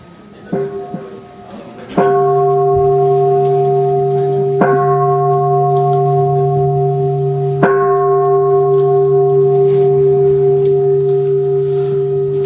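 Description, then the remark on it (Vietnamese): Three strikes of a large ceremonial bell opening a Buddhist ceremony, evenly spaced a few seconds apart, each ringing out loud with a long, sustained hum that overlaps the next strike. “Thầy sẽ điều hành buổi lễ cho ba tiếng chuông.”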